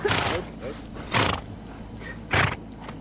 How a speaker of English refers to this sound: The horses are racing by. I can hear them, yeah. It's going so fast I can't see them. I can barely see them, if that's any help. I can hear them. Absolutely ripping past. Ah, lovely animals.